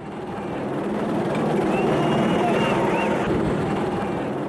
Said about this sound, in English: As police helicopters hover over the city, a Nigerian looting victim says South Africa's the richest country on the continent.